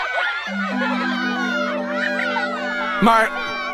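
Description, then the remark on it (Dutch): A horde of children shouts and laughs in an excited, overlapping jumble as they rush into Donald's garden swimming pool and knock him to the ground, with a steady low hum underneath and a sharp burst near the end. “Maar dan wordt hij tegen de grond gesmakt door een horde kinderen.”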